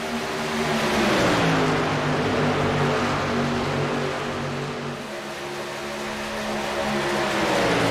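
A loud engine roars steadily with rising and falling pitch as the number 24 race car speeds past on a track, with a dip in the middle before the roar builds again. No voices.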